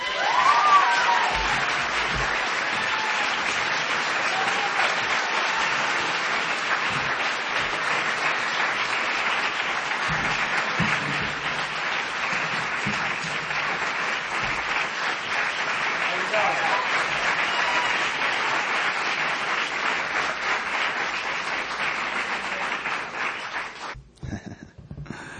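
Sustained audience applause welcoming a performer, a dense, even wash of many hands clapping for about twenty-four seconds, steady in loudness before tapering off abruptly at the end, with scattered cheers mixed in.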